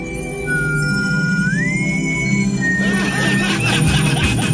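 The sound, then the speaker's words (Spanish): A long, thin whistle holds a steady note, slides smoothly up to a higher pitch, holds again, then settles slightly lower, over a busy, murmuring background. “Ahí está el silbido característico.”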